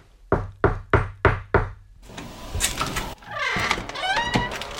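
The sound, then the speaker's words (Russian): An old man knocks on the door of a large tile-roofed house: five firm, evenly spaced knocks on a wooden door, followed by outdoor ambience with birds chirping and twittering in the background. “Подвел старец юноши к крыльцу, в дверь постучался.”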